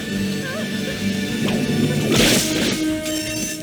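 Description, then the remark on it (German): A single sharp whip crack lands about midway, a loud, bright snap with a brief rushing tail, over a steady background hum and faint musical tones. “Vor allem soll es uns aber zeigen, dass die Regie Peitschenhieb.mp3 vorbereitet hat.”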